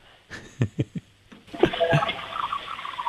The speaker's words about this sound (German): Ja, das hat man leise gehört. Das hat nach einer Klospülung geklungen.